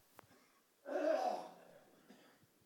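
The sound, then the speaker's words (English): A single rough throat clearing rises abruptly, rasps for about half a second, then fades into quiet breathing, fairly loud, with no talking. “Just, please allow me to just clear my throat.”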